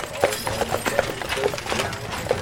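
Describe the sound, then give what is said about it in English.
Horse hooves clip-clop at an uneven walking pace, a handful of sharp knocks passing over steady outdoor street noise, as a horse-drawn stagecoach rolls by on the streets of Tombstone. “Horse-drawn stage coaches pass by constantly.”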